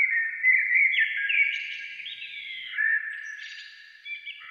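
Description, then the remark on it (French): Birds sing continuously in high, whistling warbles and chirps, with several overlapping tones at a steady, moderate loudness. No one speaks. “Et même le chant des oiseaux.”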